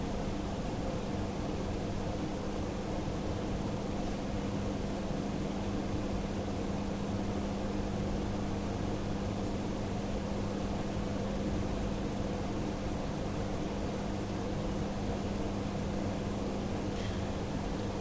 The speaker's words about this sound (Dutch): In die sfeer komt geluid op, bijvoorbeeld van die ventilator. Wanneer je in het lichaam zit, dan zeg je: ik hoor hier het geluid van de ventilator.